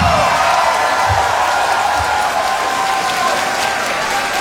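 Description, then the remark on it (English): A crowd at the end of Summer Sonic in 2013 applauds and cheers in a dense, steady roar of clapping that holds at full loudness for several seconds, with a few low thumps near the start. “Why are you cheering now?”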